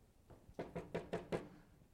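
Five firm knocks on a door in a quick, evenly spaced series, made by Interpol agents at a home in Costa Rica, with nothing else but faint background noise around them.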